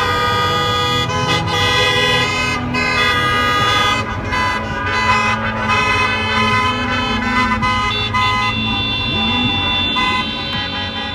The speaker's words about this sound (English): That's what it sounded like outside of Michigan's Capitol building Wednesday morning. Detroit News reporter Beth LeBlanc took the video of thousands of cars with homemade signs and honking horns to protest that state's stay-at-home order.